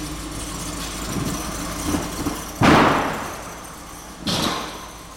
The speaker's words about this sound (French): Les journaux commencent à sortir peu à peu du camion.